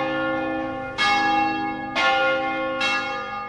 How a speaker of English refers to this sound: The Reverend Horst Heuer was tolling the bells at Emmanuel Lutheran Church just as the tweets went out.